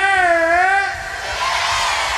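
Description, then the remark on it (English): A loud crowd of women at Untold Festival shouts "yeah" together when asked, one high voice briefly rising above the rest before the cheer spreads into a broad, roaring wash of noise. “All the ladies say”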